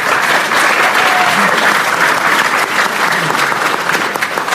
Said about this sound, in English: All right, it's pretty cool to get a clap before we've even started.